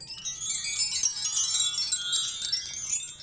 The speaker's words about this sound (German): Hier haben wir Wind Chimes.